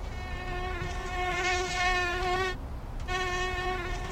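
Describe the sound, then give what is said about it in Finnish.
A steady high-pitched mosquito whine drones on, briefly cutting out for a moment before resuming just as loud over a low background rumble. No one speaks. “Myös hyttysten seurassa, kun suuliitverkko pitää inisiät sängyn ulkopuolella.”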